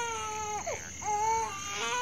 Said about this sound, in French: Oui, des cris de nouveau-né.